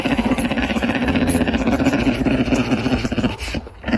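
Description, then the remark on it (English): A bear cub nibbling a person's neck growls in a low, throaty, continuous rumble with a rough, pulsing texture, holding steady for about four seconds before briefly dipping near the end. No one speaks. “It sounds like it's growling. That doesn't sound like an affectionate purr, like when a cat purrs.”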